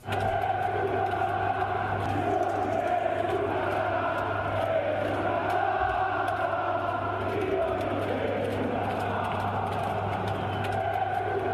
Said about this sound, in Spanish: Luego los gritos de una parte de la afición, una parte importante de la afición sobre Mirotić.